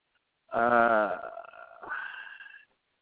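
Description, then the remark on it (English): A pet dog lets out a single drawn-out growling vocalization, about two seconds long, that starts loud and raspy, then wavers in pitch and tapers off. No talking is heard alongside it. “If my dog will not, now I got my dog messing with me.”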